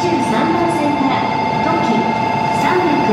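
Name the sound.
train interior ambience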